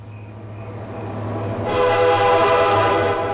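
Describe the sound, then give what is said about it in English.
A freight train travels at night through woodland, rumbling steadily along the track, a low continuous drone, then its horn blasts loudly partway through and holds, a rich, sustained chord over the rolling noise. “The freight train travels through the night, its bright lights illuminating the track ahead and the woodland on either side.”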